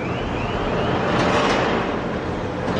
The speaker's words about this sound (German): Die riesigen Ladekräne schaffen einen Container nach dem anderen vom Deck des vor Anker liegenden Schiffs hinüber in den Hafen. Dort wird die Fracht per Lastwagen weiterverteilt.